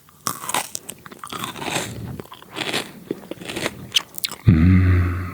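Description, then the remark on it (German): Loud crunchy bites and wet chewing of raw bell pepper (paprika), a run of crisp irregular crunches, followed by a brief burst of voice at the end. “Paprika.”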